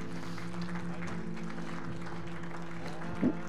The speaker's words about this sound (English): Church, would you just give Him a hand clap of praise this morning?